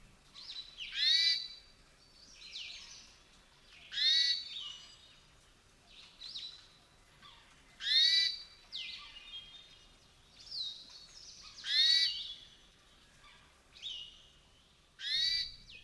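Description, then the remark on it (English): A hermit thrush gives a wheezy, rising 'way' call at dusk again and again, about five times at steady intervals of a few seconds, clear against a quiet background. “Scientists don't know what the way calls mean, but I often hear them at dusk, shortly before the caller retires for the night.”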